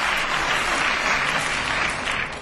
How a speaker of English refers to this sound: You shouldn't have clapped. It's the awful thing. If you're successful in this game and you get a round of applause, it completely throws you off the track.